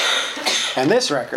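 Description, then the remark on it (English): A short, sharp sneeze bursts out with a hissy, breathy rush while a man's voice keeps talking over it, reading aloud from Matthew chapter 19, verse 13. “Bless you.”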